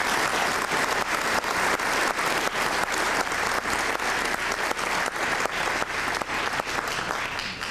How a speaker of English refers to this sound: So a big round of applause for all of our speakers.